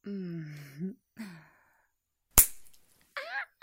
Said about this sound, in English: Hey! Why did you slap my ass?